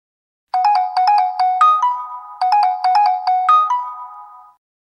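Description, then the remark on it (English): A cell phone ringtone plays clearly on its own, a bright repeating melodic phrase of quick tones that sounds twice in a row, each ending on a held note, with no talking; the phone, lying under a chair, is being called from another cell phone. “Then why don't you use my cell phone to call yours?”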